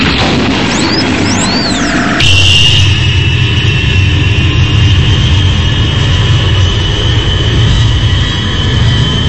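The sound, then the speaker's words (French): A Z-147 private jet's engines whine and rise in pitch for a couple of seconds as it takes off from Bastille, then burst into a loud, sustained roar with a piercing high tone, constant, with no talking. “Mais vous avez le droit de décoller comme ça de Bastille alors?”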